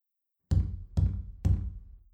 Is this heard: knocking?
yes